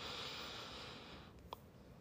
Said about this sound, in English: Breathing in, I am aware that I am breathing in.